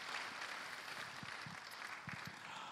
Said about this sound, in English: I also want to thank the pastors that are working under him and the leadership of the church and deacons and deaconesses and the wonderful Heart Song group. You are awesome. Praise God. Let's give them a big clap offering.